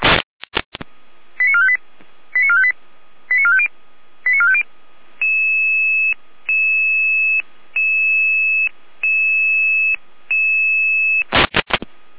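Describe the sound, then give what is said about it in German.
German Red Cross rescue service radio alert tones dispatching units to an overturned car after aquaplaning on the A9 motorway toward Munich: four quick bursts of stepped electronic tones, then a steady run of long, evenly spaced beeps, bracketed by loud radio clicks at the start and end. “Jeder mit Alarmierung.”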